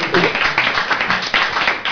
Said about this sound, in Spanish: Bueno, esos aplausos que escucháis cada vez que la raza que son de...